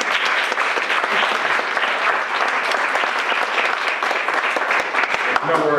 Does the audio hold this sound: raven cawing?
no